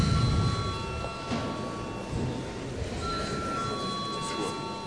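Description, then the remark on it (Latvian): A parliament session bell, rung before a vote on confidence in the Cabinet of Ministers, rings continuously for several seconds, a sustained bright metallic tone over a low murmur of background voices and room noise. “Lūdzu zvanu.”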